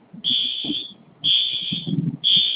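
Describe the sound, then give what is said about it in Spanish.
A store entrance alarm siren sounds in three long, steady, high-pitched beeps with short gaps between them, loud over a low murmur of background noise. “La sirena está en la mera entrada y hay que meter la mercancía.”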